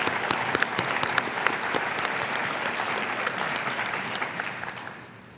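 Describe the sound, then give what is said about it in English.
Steady audience applause from many hands, acknowledging Supreme Court rulings upholding the Affordable Care Act and the right of everyone to marry; a dense crackle of claps holding even in loudness for about five seconds before tapering off at the end. No one speaks over it. “I think we need to acknowledge and applaud those.”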